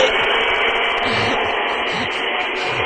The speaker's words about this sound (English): That sounds like a... I'm vacuuming. Vacuuming the office.